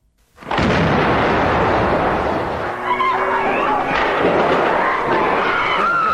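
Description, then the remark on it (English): A sudden loud blast erupts and rolls into a sustained, roaring wash of noise, with faint whining tones and scattered sharp cracks of gunshots: an explosion at the back of an embassy as the SAS stormed it to end a hostage siege on 5 May 1980, with smoke rising from the roof. “A few minutes ago, there was a massive explosion from the back of the embassy at about 7:24. A pall of smoke rose from the roof. There were shots fired, and about 30 seconds, 45 seconds later, a second explosion.”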